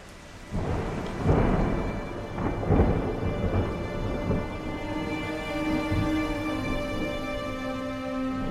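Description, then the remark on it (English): A thunderstorm rolls in over Jonestown as deep thunder rumbles and cracks loudly a couple of times early on, then a steady wash of heavy rain continues with lingering low rumbling. “Som om någon från Hollywood regisserade händelseförloppet så flög den mörkaste storm som någonsin syns i Jonestown in över staden.”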